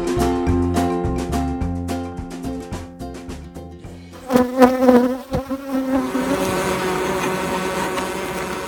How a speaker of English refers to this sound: Those are the sounds of thousands and thousands of bees right outside my house. I am a beekeeper.